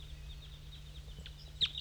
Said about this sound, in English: Oh, the wild bird is singing. There's a wild bird still up in the dead pine singing.